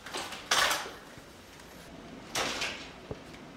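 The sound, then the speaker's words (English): A heavy metal drawer in a museum's locked collection storage room slides along its runners twice, each a broad scraping rush, with a faint click between, fairly loud. “It's massive, filling row upon row of huge metal drawers and shelves, although one wall of the room is now made of glass, so visitors can see some of what's in there.”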